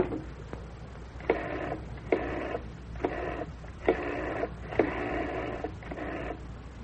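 household object, telephone being dialed

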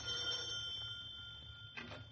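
household object, doorbell ringing

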